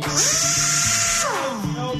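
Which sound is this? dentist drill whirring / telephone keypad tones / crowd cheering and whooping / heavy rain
dentist drill whirring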